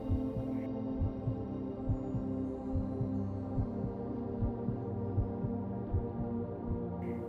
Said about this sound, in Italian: Senti le pulsazioni del pianeta come se fossero il battito del tuo cuore.